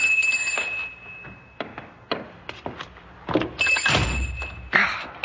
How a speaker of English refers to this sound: This old door. It's on a latch, but I have to be sure it locks. There.